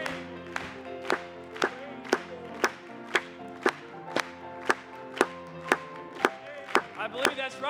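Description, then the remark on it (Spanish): An audience claps for Jesus together in a steady, even beat, about two sharp claps per second, over sustained musical tones, with a few quicker, scattered claps near the end. “Vamos a aplaudirle.”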